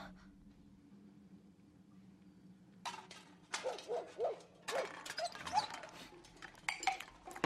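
A dog barks several times in short, uneven bursts amid clattering noise, growing busier and louder after a quiet start, with a low hum underneath throughout.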